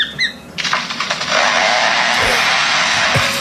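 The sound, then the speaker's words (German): A superb lyrebird mimics a chainsaw: a few brief chirps, then a loud, sustained buzzing roar with a rasping, revving texture that holds steady for several seconds. “Ein Vogel, der eine Motorsäge imitiert.”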